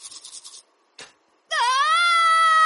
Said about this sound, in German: Mit Schreien stopfst du kein Zahnfleischbluten.